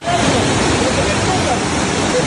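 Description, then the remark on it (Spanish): A loud, steady roar of rushing floodwater from the overflowing river in Utuado, Puerto Rico, after the storm Fiona. Its strong current carried away part of the road structure and a metal bridge. A dense, continuous churning wash fills the whole stretch without pause. “En Utuado, el río se desbordó y la fuerte corriente se llevó parte de la estructura de la carretera y también este puente de metal.”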